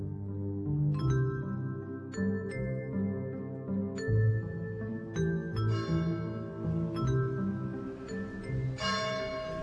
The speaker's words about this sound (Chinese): 2002年3月23日，悠远的钟声回响在三圣学院的校园